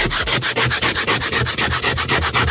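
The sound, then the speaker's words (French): Rapid, rhythmic scraping strokes, about fourteen in under three seconds, a harsh gritty rasp as a home nurse scrapes ice off her car windshield in the morning before going to see her patients, with no voices. “premier grattage de pare-brise depuis très longtemps pour aller voir mes patients hier matin”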